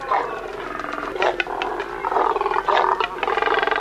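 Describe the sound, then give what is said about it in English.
A nesting colony of double-crested cormorants gives deep, guttural croaks and grunts, many overlapping calls forming a loud, continuous, rasping chorus with no voices. “These deep, guttural sounds emanate from a nesting colony of double-crested cormorants, large black water birds with short legs and long necks.”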